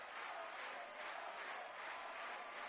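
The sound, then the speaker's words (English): A large baseball stadium crowd roars in a dense, continuous wash of cheering and voices, loud and sustained throughout with no single speaker standing out. “The crowd awakens.”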